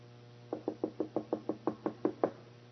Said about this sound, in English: Lord, can you not hear me knocking? Lord?